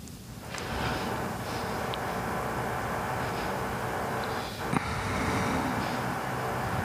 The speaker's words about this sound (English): This is a lot of drilling. Like, it's usually not this much. You can never predict it.